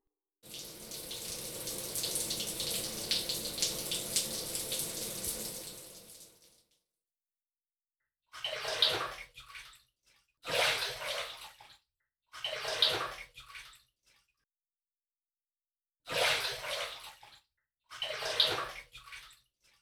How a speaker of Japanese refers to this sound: さあ、シャワーをかけて一緒に湯船に浸かりましょう。